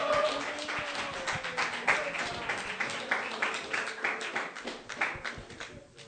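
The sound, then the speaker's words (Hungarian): A church audience applauds steadily for several seconds to welcome an entertainer, a dense wash of many hands clapping with a few sharper individual claps standing out, fading slightly toward the end. “Úgyhogy kérlek, hogy fogadjátok szeretettel és nagy tapsala az egyik legnagyobb mókamestert itt a gyülekezetbe.”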